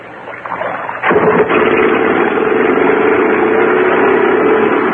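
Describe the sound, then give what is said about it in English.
A motorboat engine starts up about a second in and keeps running with a steady, loud droning hum, no voices over it, as the boat carries passengers out to a yacht. “Boat rides easy.”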